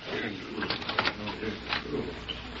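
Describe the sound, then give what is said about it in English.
A printing press runs steadily, printing fake paper money, its mechanical clacking and thumping repeating in a busy, uneven rhythm throughout the short stretch. “If I print any more fake paper money for Ormond King, I'll never be able to face Prairie City again”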